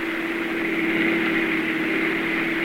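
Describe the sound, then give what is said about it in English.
A car engine drones steadily as the vehicle drives along a snow-covered street with three men inside: a constant low hum with a faint whine, holding an even loudness with no voices. “The story itself begins as a car moves along a snow-covered street.”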